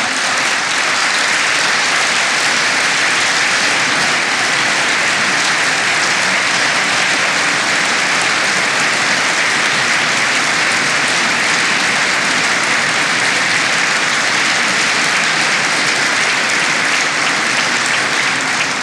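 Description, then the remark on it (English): Sustained audience applause, a dense steady wash of many hands clapping at an even loudness for nearly twenty seconds, with no voices heard over it. “I should tell my colleagues, I don't get that much applause in the Greek Parliament.”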